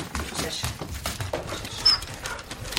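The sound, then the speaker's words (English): A Springer Spaniel trained to sniff out bedbugs sniffs and pants while searching a Paris flat, a rapid run of short, breathy bursts of air that keep coming in an uneven rhythm over a quiet background. “the Springer Spaniel, has been specially trained to sniff out bedbugs, and right now he's looking for a whiff in a Paris flat.”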